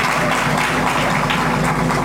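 A crowd applauds steadily, a dense, loud wash of many hands clapping at once that holds an even level throughout, with no voices over it, applauding an artist for her work at the host's request.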